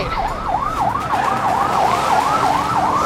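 A police car siren wails, sweeping rapidly up and down in a steady, repeating yelp over a constant rumble of traffic, loud throughout, as police pursue a stolen car on 98 in Springfield, Florida, on streets slick with water after a summer rain.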